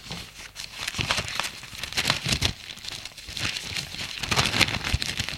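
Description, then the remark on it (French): Newspaper pages rustle and crinkle continuously for several seconds as a father picks up his newspaper again, a dry, papery crackling with irregular bursts as the sheets are shuffled and folded, with no voices present. “Père reprend son journal.”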